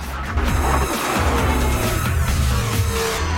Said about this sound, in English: she swerves back onto the road, cars skidding and crashing around her.